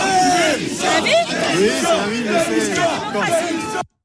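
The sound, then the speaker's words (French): A loud, dense crowd of protesting farmers in front of the Assemblée nationale boos and shouts calls for resignation, many voices overlapping in rising and falling jeers that hold steady for about four seconds before cutting off abruptly. “Vous avez été hué, des cris de démission”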